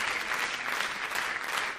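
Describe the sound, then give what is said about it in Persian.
A steady burst of audience applause, dense and even clapping from many hands sustained throughout, fairly loud, with no voices standing out. “خب تشویق کنه خودتون تا یه موزیک هم بریم تا استاد.”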